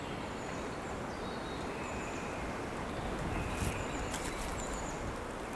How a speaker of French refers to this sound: Les oiseaux gazouillent.